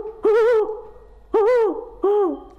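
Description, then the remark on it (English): A person in southwest Alaska imitates a hawk owl, giving three loud, tonal hooting calls with a rising-and-falling pitch, each about half a second long, separated by short pauses. “has an amazing ability to mimic many of the calls of the birds found here in southwest Alaska, like the hawk owl.”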